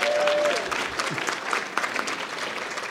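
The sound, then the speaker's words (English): An audience at the Aspen Institute summer celebration applauds steadily, many hands clapping in a dense, even wash of sound that holds at a fairly loud level throughout, with a brief whistle-like tone near the start. “First person to stop clapping was my wife.”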